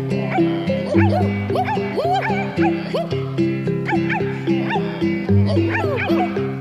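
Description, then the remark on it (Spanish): Children's voices imitate dogs, letting out a lively string of rapid barks and yips, several at a time, over steady, bright background music that plays throughout. “Abracadabra, pata de cabra, ahora los niños perros serán.”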